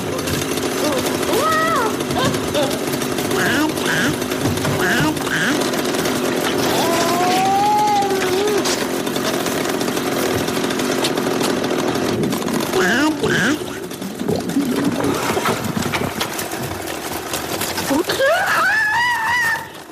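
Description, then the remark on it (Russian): A chainsaw runs loud with a steady rasping drone as the father carrying it drops it, while his voice shouts and screams over it, crying that his son is dying, rising into a strained cry near the end. “Отец, идущий с бензопилой уничтожать свое отродье, роняет орудие убийства и с криком «Сын погибает!».”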